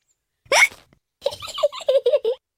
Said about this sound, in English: Oh dear. George's hiccups are spoiling the game. George, I know how to cure hiccups.